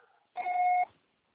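voicemail recording beep

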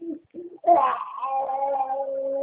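baby crying

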